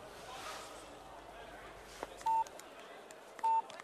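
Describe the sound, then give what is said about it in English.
A phone number is punched in on a keypad: three clear, loud touch-tone beeps at uneven intervals over a steady hissy background, with a few faint clicks between them. “Answer the phone. Answer the phone, you stupid woman.”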